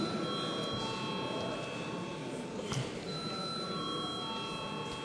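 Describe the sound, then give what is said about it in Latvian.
A steady electric bell rings continuously for several seconds in a parliament chamber, calling members to a vote on a bill, a sustained tone over a murmur of voices, with no one speaking. “Lūdzu zvanu.”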